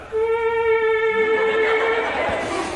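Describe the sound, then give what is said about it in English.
An electronic instrument imitates a mosquito with a thin, steady, buzzing whine held for about two seconds, fairly loud, before breaking into a rougher, noisier hiss. “Mosquito.”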